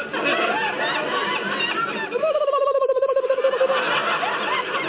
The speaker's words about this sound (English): Yes, I have hiccups. But it sounded like a bird.